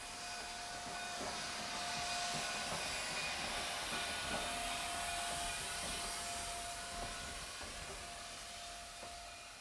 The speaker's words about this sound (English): And the train always coming, and little Nell always screaming, and the train always coming, and some Mountie always saving her.